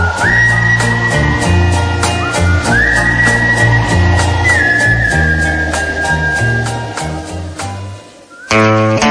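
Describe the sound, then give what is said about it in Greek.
A sweet, sustained whistled melody with gliding notes rides over a steady band backing of bass and drums, loud, ending with a short break before the music resumes. “Αυτό το γλυκό σφύριγμα.”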